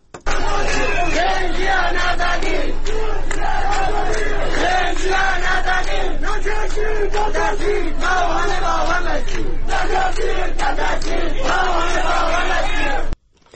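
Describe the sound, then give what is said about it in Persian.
A large protest gathering in the city of Divandarreh, Kurdistan province, Iran, on Monday morning: the crowd chants and shouts together in loud, sustained unison, voices rising and falling in repeated phrases with brief breaks, continuing steadily for the whole stretch before cutting off abruptly. “ویدیوهای دریافتی نشان می‌دهد از بامداد دوشنبه به ویژه در شهر دیوان دره استان کردستان تجمع بزرگ اعتراضی جریان دارد.”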